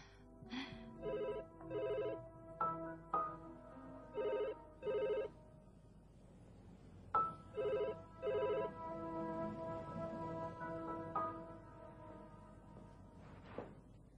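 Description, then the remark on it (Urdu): A telephone rings in repeated double bursts, three pairs of bright electronic trills with short pauses between them, clear over a faint tonal background. “صوفی صاحب نے فون کیا تھا آپ سے، انہیں کوئی بہت ضروری کام ہے، کہہ رہے تھے کہ فوراً ان کے پاس جائیں.”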